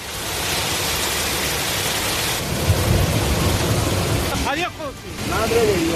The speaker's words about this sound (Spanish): Ese episodio de lluvias torrenciales lo vivían los vecinos con angustia.